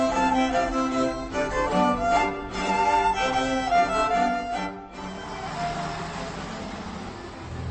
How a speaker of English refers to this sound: As you can probably hear, I'm on a bus winding my way up the hill towards Potučki, which is a little village on the Czech-German border.